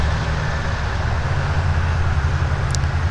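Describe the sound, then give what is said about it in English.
A steady, unbroken roar of traffic on Interstate 680 with a heavy low rumble, fairly loud and constant throughout, on a very sunny day, with no one speaking. “And I'm sure you can hear the traffic.”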